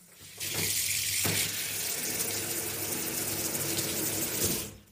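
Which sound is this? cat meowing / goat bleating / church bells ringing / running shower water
running shower water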